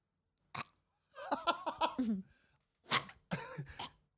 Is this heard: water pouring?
no